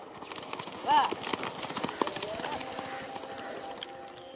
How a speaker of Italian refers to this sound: Ve ne facciamo sentire una di cavalli che galoppano in modo da capire la differenza.